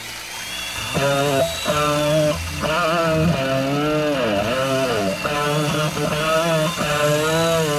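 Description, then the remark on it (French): A loud electric drill whirs and whines in bursts, its motor pitch rising and sagging, layered over a dense rock band backing. “En témoigne ce …, rock à perceuse et aspirateur.”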